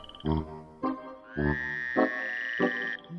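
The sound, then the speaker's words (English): Frogs call in a wetland, a series of five throaty croaks spaced about half a second apart, clear, over a steady high-pitched trill that runs through the second half. “to me it just says that the frogs are happy, and I love hearing that.”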